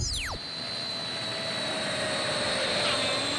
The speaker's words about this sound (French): C'est avec le son de ce long courrier de la BOA